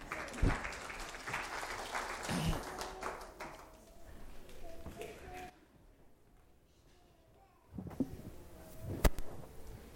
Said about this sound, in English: All right, let's give them a round of applause, everyone.